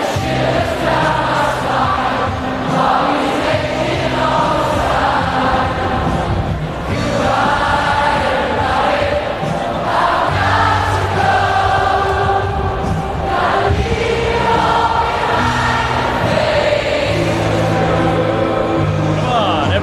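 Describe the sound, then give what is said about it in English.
A huge stadium crowd of about 65,000 people hums the guitar parts of a song in unison, a loud, sustained wall of voices rising and falling in perfect time for the full stretch, with no spoken words. “They even hum the guitar parts.”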